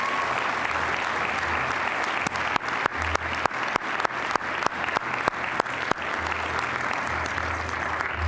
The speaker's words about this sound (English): You can applaud these three men this morning.